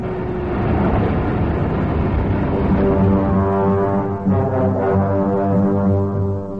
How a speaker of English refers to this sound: The squad car races to the scene of the reported crime. It takes less than 2 minutes to get there.